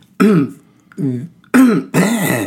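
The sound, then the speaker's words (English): Loud coughing: rough, throaty bursts come in two pairs, each pair a quick hack followed by a fuller one, with brief silence in between and no talking. “I coughed twice.”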